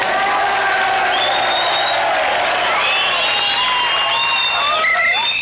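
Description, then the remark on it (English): A dense crowd at Durando's Bar cheering and whooping, with shouts and whistles rising over continuous clapping and a busy background murmur, loud and sustained throughout. “And you hear all those people applauding?”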